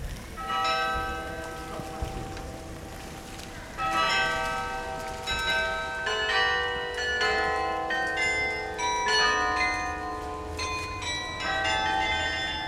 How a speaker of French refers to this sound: Un carillon qu'on joue régulièrement, on a la possibilité de l'enregistrer, d'avoir des personnes qui écoutent, qui vous renvoient un petit peu le rendu.